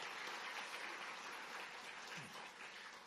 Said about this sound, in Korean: 한번 선교사님 한번 일어서 주시면 같이 한번 일어서 주시고 선교사님 인사 한번 하겠습니다. 우리 박수로 우리 따뜻하게 응해하겠습니다. 감사합니다.